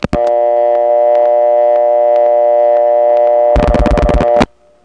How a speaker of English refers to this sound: This is a very similar sound. This is what the selectors in the Trinity step sound like when they're waiting for a digit. The reason we hear this sound is because the selector is waiting for us to dial a digit,